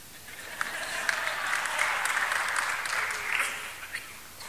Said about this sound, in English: You know, I've been married over 20 years. You can applaud.